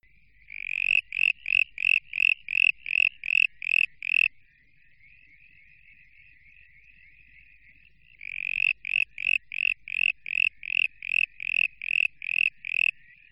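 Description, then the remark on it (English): A southern brown tree frog calls with two bursts of rapid, evenly spaced rasping pulses, separated by a softer, continuous trill. No one speaks. “The frog you just heard there was the southern brown tree frog, and he really likes to call immediately following rain.”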